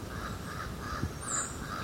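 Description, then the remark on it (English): A single short, high-pitched squeak from a tody sounds partway through, over a steady run of repeated lower, hoarse bird calls and faint background noise. “Toady. Just made that squeak.”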